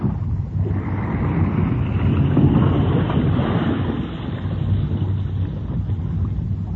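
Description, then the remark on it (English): Steady rushing water and wind noise around a boat, a dense low churning wash that swells slightly midway, like a vessel rolling on choppy water as a submarine surfaces beneath it; no voices. “Hey, the boat's rocking a whole lot more. Yes, I think your girlfriend and her submarine are playing around under us here somewhere now.”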